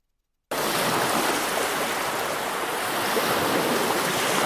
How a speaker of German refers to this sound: Meeresrauschen. Ferien unter Palmen. Die Strände der Dominikanischen Republik locken Jahr für Jahr rund eine Viertelmillion deutsche Besucher an.